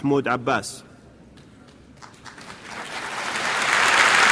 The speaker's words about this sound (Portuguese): Minutos depois, Abbas discursou na Assembleia Geral, onde foi aplaudido de pé por algumas das delegações.